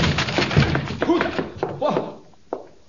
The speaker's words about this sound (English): I'll force the door and you enter after me.